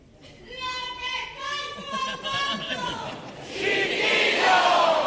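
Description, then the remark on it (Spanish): A sustained, high-pitched shout from an audience member, one of the traditional genuine shouts of this theatre, rings out over crowd murmur for about three seconds during a comparsa performance, then gives way to a loud wash of cheering and applause from the theatre audience. “Ahí está, el grito genuino, uno de los gritos genuinos de este teatro para allá.”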